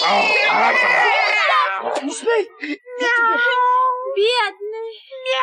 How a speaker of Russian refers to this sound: Бедный котик. Мяу. Ну, где тебе больно? Вот тут. Ну, не плачь. А то я тоже буду плакать. Ну, не плачь.